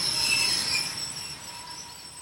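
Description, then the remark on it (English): High, sustained metallic squealing of train brakes over a low rumbling rail noise, fairly loud and steady, slowly easing as the train grinds toward a stop after someone pulled the emergency brake as the train was starting to leave for the next stop. No voices. “As the train was starting to leave to get to the next stop, the driver said someone pulled the emergency brake, grinding the train to a halt.”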